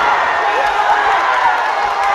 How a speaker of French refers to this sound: Explosion de joie sur le tatami du dojo Roger Ginet. On crie, on s'étreint.